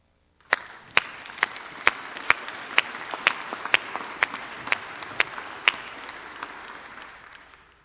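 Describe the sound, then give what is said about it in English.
An audience breaks into applause for people who came today with no hope. It starts abruptly and holds steady for about seven seconds, with a few sharp, loud claps punching through at a regular, almost rhythmic beat. “If you have, you need to be applauded because you have fought through every demon of hell to get here.”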